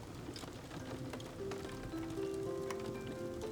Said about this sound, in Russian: За окном лил дождь, когда Эсмеральда наконец начала свой рассказ под аккомпанемент арфы.